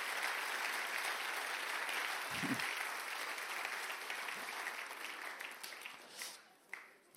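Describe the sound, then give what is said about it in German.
Steady applause from an audience at the Minions Camp, a dense wash of many hands clapping at an even level throughout, with a few sharper claps near the end. “Bitte einen Applaus für meine beiden.”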